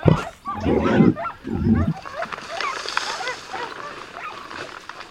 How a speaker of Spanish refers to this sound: Y una de las más habituales es una montería en el bosque como esta, en la que parece que estamos en medio. Una reala de perros ha descubierto un jabalí que se ha puesto velozmente en fuga como alma que lleva el diablo.